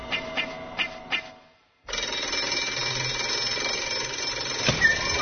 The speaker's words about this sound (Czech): Dakle, danas nam je baš glavni lik to poslednje školsko zvono koje se čuje sa sve muzikom i neretko trubačima i pokreće emocije.